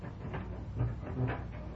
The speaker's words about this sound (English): Very well, then. I will open this door.